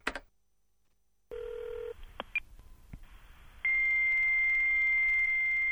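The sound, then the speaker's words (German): A phone line opens with a click and low tones, a few clicks and blips follow, then a steady high-pitched fax answering whistle sounds loudly and continuously to the end. “Nein, da ist ein Fax dran. Der typische Pfeifton.”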